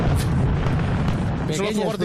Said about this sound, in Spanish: Son fuegos artificiales. Que se ha quedado con la traga de la noche vieja todavía en casa. Bueno, pues son fuegos artificiales, pero no pasa absolutamente nada.